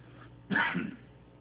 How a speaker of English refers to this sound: Might mention, I've been wrestling with a cough. I'm not quite sure what it is. We got it, both my wife and I, after the feast. And hers has let up a little more than mine, but every once in a while I get a tickle.